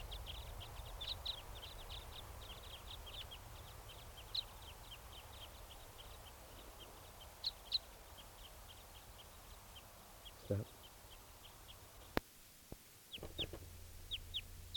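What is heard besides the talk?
bird flying over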